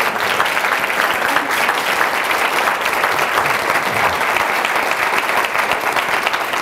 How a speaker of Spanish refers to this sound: Aplaude lo que Él la merece.